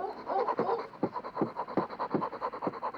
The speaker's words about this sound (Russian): Так дышит наша новая собачка. Она тянет очень сильно, запыхалась.